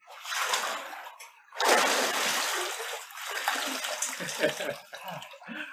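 Water surges and splashes loudly as a person is immersed in a baptism, a second heavy rush following a moment later, then lighter sloshing and dripping settling down.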